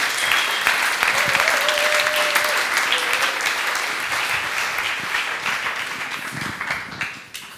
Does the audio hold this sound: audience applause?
yes